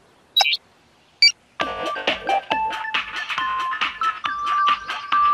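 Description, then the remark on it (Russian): Two quick electronic chirps, then a tinny mobile phone melody starts up, a bright beeping tune with a steady bouncy beat and no talking. “Телефон. Он может играть музыку.”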